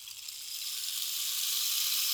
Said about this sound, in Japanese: 心地よい雨音のシャワー